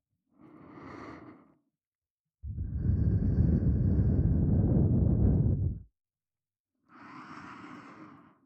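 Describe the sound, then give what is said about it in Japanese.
Three breathy puffs of air suddenly blown into the ear as a prank: a soft exhale, then a long, strong, rushing blow of about three seconds, and another gentle exhale, with no talking. “ご主人様は、こんな風に突然耳に吐息を吹きかけられるいたずらをされたことがありますか？”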